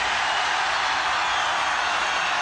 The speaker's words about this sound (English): You want to do some screaming, right?